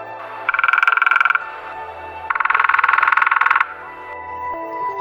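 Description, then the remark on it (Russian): Frogs croak by a small forest stream in two rapid, pulsing bursts, a loud trilling chorus that rises, pauses briefly, then returns, over a steady background of softer calls. “И попали в лукошко два кукушкиных куку, один куплет веселой песенки лягушат и стук дятла.”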